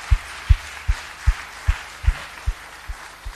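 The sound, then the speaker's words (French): An audience applauds a worship band that has just played, in a steady hiss of clapping, carried by a regular low thump that repeats about twice a second, nine beats in all, with no one speaking. “si je peux me permettre, pouvons-nous remercier le groupe de louanges qui nous a servi ce soir simplement en les applaudissant pour le travail.”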